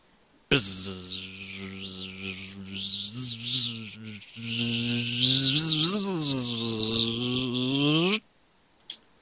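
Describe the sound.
A person imitates a bumblebee with a sustained, loud, droning buzz, wavering in pitch for about eight seconds with a brief dip midway, then stopping abruptly.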